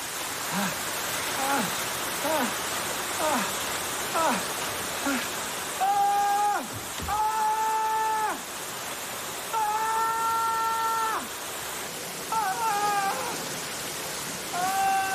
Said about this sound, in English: Glimpses show water showering down throughout the penthouse.